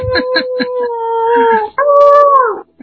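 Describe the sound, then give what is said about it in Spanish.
Plaintive, howling moans like a dog's from members of a fan club: two long sustained wavering tones, the first steady and drawn out, the second rising then sliding down, with brief pulsing yelps at the start. “Ya se escucharon dos o tres gemidos por ahí, lastimeros del club de fans.”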